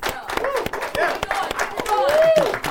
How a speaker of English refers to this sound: Y'all round of applause. Yeah.